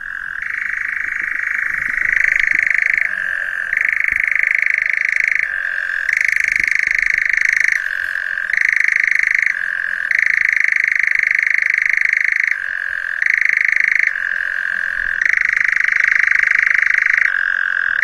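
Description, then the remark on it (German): A European nightjar churrs without a break, a loud, dry mechanical trill that shifts up and down in pitch every couple of seconds, with no other voices. “So, das war jetzt der Ziegenmelker”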